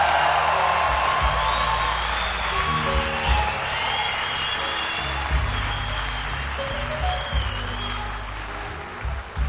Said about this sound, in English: So when I let you know it, you'll help me out by kind of giving up a yell or something, you know.